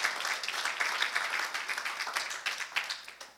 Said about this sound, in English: That's an unbelievable love, church. Give the Lord a clap offering for this love, please. Amen.